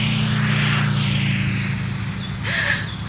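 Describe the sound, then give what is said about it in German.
A blue and yellow motor scooter zooms by, its buzzing engine whine sweeping up and then falling away over a steady low drone, loud throughout and with no talking. “Ist jetzt da gerade ein blau-gelber Roller durchgefräset?”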